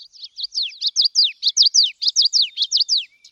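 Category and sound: bird, birdsong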